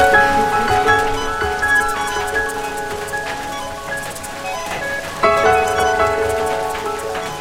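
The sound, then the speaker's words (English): Steady rain falls outdoors on the slopes of Mount Royal during a walk up the hill, in a dense, continuous patter with scattered louder drops, while sustained tonal notes ring faintly in the background. No one speaks. “So with that, let's head up the hill, up Mount Royal, and brave the rain.”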